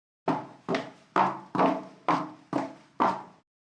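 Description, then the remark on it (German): Seven crisp footsteps of a woman at a quick, even pace, each a sharp click with a short ringing tail, like heeled shoes on a hard floor, with no voices. “Take two. Damenschritte.”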